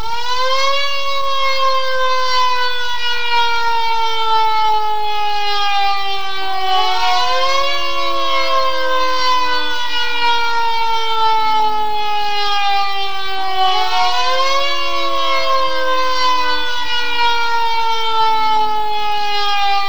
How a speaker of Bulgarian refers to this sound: В този момент, в продължение на 3 минути, сирените в цялата страна ще оповестят отдаването на почет към паметта на загиналите.